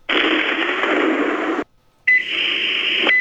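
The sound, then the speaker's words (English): A microwave sound effect: a loud, steady droning hum runs for about a second and a half, cuts out briefly, then resumes with a faint tonal whine on top before stopping. “I don't know why certain sound effects just crack me up. One of them is that microwave.”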